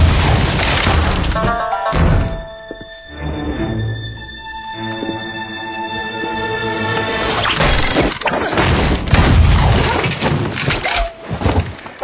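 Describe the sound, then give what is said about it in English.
Loud, booming shotgun blasts go off in an irregular series, with a sustained ringing, musical tone filling the pause between the first shots and the later flurry. “Not that I have to be at this range, but I'm a fucking surgeon with this shotgun.”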